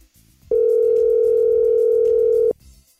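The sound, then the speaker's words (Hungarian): A steady telephone dial tone, heard while calling the listener of the day, holds one unbroken pitch for about two seconds, loud and clean, with faint background sound before and after. “Hívjuk a nap hallgatóján.”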